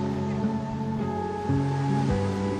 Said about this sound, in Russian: И чем лучше вы слышите морской прибой, тем спокойнее на душе.